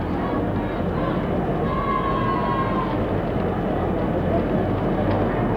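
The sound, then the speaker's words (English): A large crowd boos as the boxers Sonny Liston and Cassius Clay, the heavyweight champion of the world, enter the ring, in a steady, unbroken roar of low voices that holds at the same loud level throughout, with no single voice standing out. “Now the fighters are in the ring. You probably heard the boos.”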